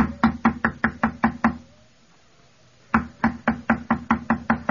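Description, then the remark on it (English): Loud, rapid knocking on a door in the middle of the night: a run of about seven heavy, evenly spaced raps, a short silence, then another urgent burst of about eight. No voices are heard. “Open the door!”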